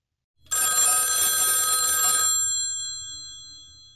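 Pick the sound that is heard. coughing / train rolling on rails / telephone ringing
telephone ringing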